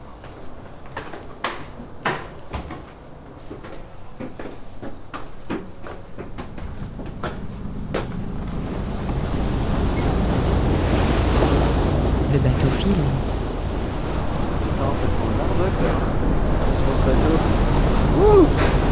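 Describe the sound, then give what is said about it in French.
A boat carrying tourists speeds across the sea at night, its rushing wake and wind swelling into a steady roar after a few scattered knocks early on, with no voices. “Sur les banquettes, bateau file.”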